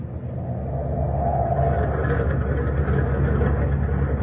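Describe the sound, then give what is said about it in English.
A steady, heavy mechanical roar of ship turbines running wide open at full power aboard a ship on the morning of Saturday, April 18, 1942; dense low rumble with a hissing mid-range layer, constant and loud throughout with no voices. “Listen to the turbines. They've got it wide open.”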